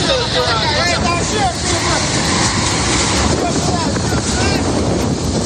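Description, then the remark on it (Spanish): Roaring hurricane-force wind and crashing surf of Hurricane Melissa making landfall in Jamaica, with sustained winds up to 300 km/h, fill the whole clip as a loud, steady wash of noise, with rising and falling whistling tones cutting through the constant buffeting. “Es el huracán Melissa, tocando tierra en Jamaica, convertido en un auténtico monstruo.”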